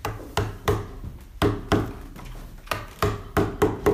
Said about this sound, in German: Dort arbeitet ein Schnitzer gerade mit Hammer und Beitel an einer auf dem Rücken liegenden lebensgroßen Holzstatue des Apostel Paulus.